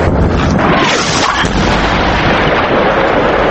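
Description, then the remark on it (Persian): A loud, unbroken wall of artillery and tank fire and booming blasts as government security forces attack the city of Idlib, blurring into a harsh, distorted rumble with deep low-end thuds, steady throughout with no voices. “در همین حال روز شنبه همزمان با مذاکرات انان و اسد، نیروهای امنیتی دولت با آتش توپخانه و تانک به شهر ادلیب حمله کردند.”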